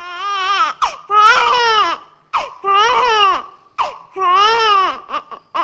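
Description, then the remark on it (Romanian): A newborn wails loudly in a maternity ward in the Republic of Moldova, three long, rising-and-falling cries separated by short gasping breaths and brief choked sounds, with no talking. “și-a început relatarea pe această temă la maternitate.”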